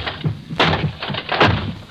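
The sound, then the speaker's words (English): A wooden chair being smashed: two loud crashing blows about a second apart, with lower thuds and clattering rattle between and after them. No one speaks. “Smashing that chair won't help, sir.”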